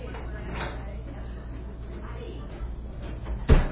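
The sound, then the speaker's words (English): A door is shut at the start of a class with one short, solid thump near the end. It is heard against a steady low room hum with faint background murmuring. “Okay, so shut the door real quick.”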